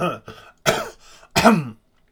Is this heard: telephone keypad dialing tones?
no